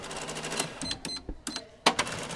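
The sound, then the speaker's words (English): A cash register at a beauty school in Charleston, as customers return for haircuts, clatters: a run of mechanical clicks and key presses, a brief ringing chime, then a sharp louder clack as the drawer opens, with no one speaking. “Just a couple doors down, instructors at the Charleston School of Beauty Culture were happy to hear the cash register ringing again after customers began returning for haircuts.”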